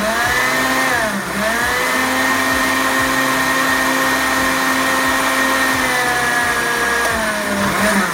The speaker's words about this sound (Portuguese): A batata doce, o leite de amêndoa, uma pitada de canela. Eu vou usar alfarroba, mas você pode usar cacau. E as tâmaras hidratadas sem caroço no meu liquidificador. Vamos bater isso tudo e formar um creme lisinho, bem bonito. Bate aí que eu quero ver.